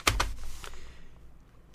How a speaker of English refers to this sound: But see, if I have the sound of a paper, then you get the feeling like I've got my thoughts organized. Half as much as I really do, because I don't need a paper to look at.